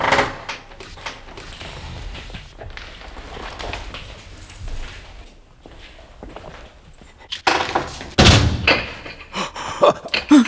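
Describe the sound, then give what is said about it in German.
A door, bolted from the outside, is worked at with repeated rattling and knocking of wood, then several loud, sharp slams. Quieter shuffling and creaks fill the gaps, and no one speaks. “Aber jemand hat die Tür von außen verriegelt.”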